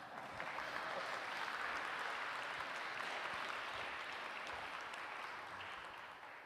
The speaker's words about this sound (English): Thank you, guys. Round of applause.